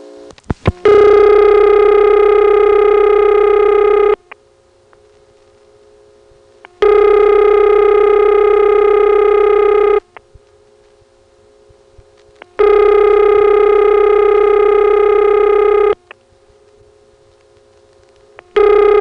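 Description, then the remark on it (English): A subscriber's telephone line rings three times after the final digit is dialed, in long, steady buzzing bursts, each separated by a few seconds of the line's quieter, constant hum; a couple of faint clicks come just before the first ring. “Now let's dial one more digit, and the ringing will start. In between each ring, you'll hear that same hum of the subscriber's phone line, though it won't be as loud.”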